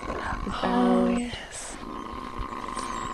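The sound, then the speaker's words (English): A nesting female animal with a green back and red under her chin, inside an active nest on a ridge incubating about four eggs, gives a single low, throaty growl lasting under a second, rich and buzzing, then fades into soft rustling and background hiss. “If you can hear, she's growling at us.”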